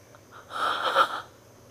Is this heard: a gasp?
yes